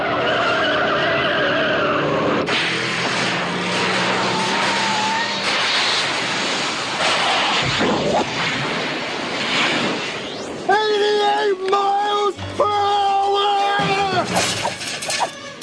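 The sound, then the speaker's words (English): A DeLorean car roars and skids, its tires screeching in loud, sustained high-pitched squeals over engine noise, before the car speeds away. “Well, it's a DeLorean.”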